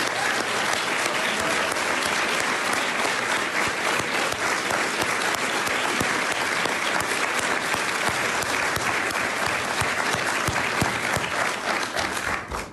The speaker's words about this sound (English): And we're so proud to have the Columbia Police Department basketball team members with us this morning. Stand up, guys, and take a round of applause.